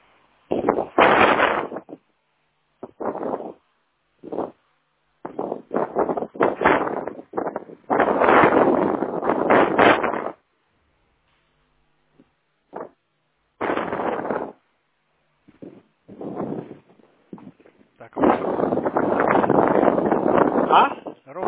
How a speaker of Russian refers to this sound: Включен? Скорее всего, чуть не дом, поэтому слышу ветер.